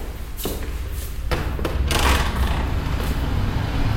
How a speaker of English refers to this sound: Try to follow the sound of my footsteps so that we can stay together. going to turn right onto Whitechapel High Street.